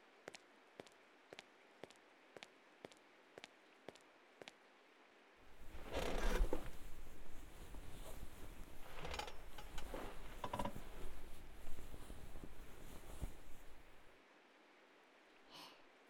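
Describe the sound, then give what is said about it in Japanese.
Rain falls in a steady hiss for several seconds, preceded by a run of evenly spaced soft clicks and followed by near silence. No one speaks. “今日は雨の音が気持ちいいからシンプルなマッサージが気持ちいいかも。”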